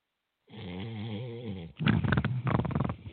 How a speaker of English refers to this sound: What the hell is that? That was me snoring. Oh, okay. Okay. He's tired. He's taking a nap.